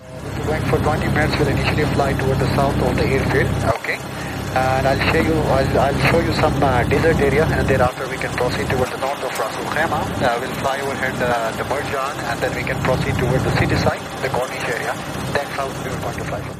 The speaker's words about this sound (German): Wie man hört, ist es sehr laut im Flugzeug. Man verständigt sich auch da über Kopfhörer, so wie wir ja jetzt gerade auch hier im Podcast.